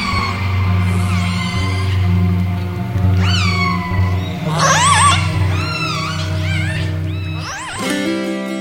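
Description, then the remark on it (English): Underwater orca calls resonating down a very deep submarine canyon, about 1,500 feet deep: a series of squealing, harmonic cries that bend up and down in pitch, some overlapping, over a steady low droning hum throughout. “And you can hear the whales' calls resonating down this very deep submarine canyon.”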